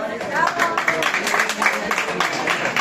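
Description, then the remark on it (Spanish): A crowd applauds steadily, a dense patter of many hands clapping at once with some mixed voices underneath, holding an even, fairly loud level throughout. “Para empezar, un aplauso.”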